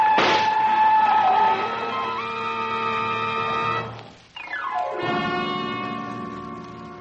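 train whistle

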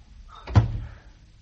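door closing

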